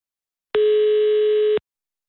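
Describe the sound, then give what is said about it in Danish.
A single steady ringback tone of a call to a landline telephone, placed from Radio 24/7 in Copenhagen, sounds once for about a second, loud and clear, with silence before and after and no one talking. “Og derfor har vi også fået lov at ringe til Nelly, men kun over fastnettelefon.”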